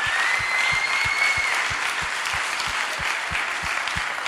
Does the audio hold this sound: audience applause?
yes